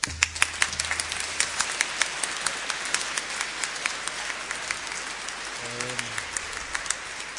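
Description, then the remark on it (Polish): An audience at a church academic ministry gathering claps steadily for several seconds, a dense patter of many hands with sharper individual claps popping out, and a brief murmur of voices beneath it near the end. “proszę tak nie klaskać, bo może być ze mną jak z tym osłem w niedzielę palmową, jak osioł wwoził Pana Jezusa, to był przekonany, że te palmy są dla Niego.”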